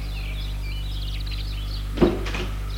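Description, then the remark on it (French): A car door opens with a short clunk and rattle as a chauffeur gets out of the car, stopped in front of a château terrace, over a steady low engine hum, with birds chirping faintly. “Le chauffeur sort de voiture”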